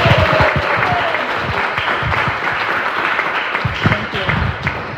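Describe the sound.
Sustained applause from an audience, dense overlapping clapping at a steady loud level throughout, with faint voices mixed in beneath the noise.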